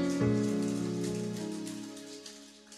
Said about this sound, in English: Clap your two hands together for them.